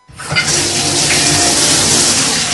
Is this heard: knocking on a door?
no